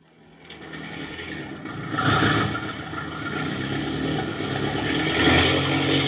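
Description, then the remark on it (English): A powerful airplane engine roars steadily and builds louder over several seconds, a dense droning rumble as it is blasted to full throttle after a landing, with no voices. “Hey, what you trying to do blasting that engine?”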